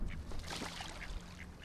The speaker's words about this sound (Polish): To co słychać? To islandzka kaczka.